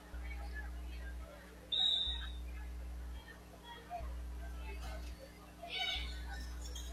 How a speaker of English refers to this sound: Serve, bad pass. We get a whistle when somebody's under the net. It's Bismarck.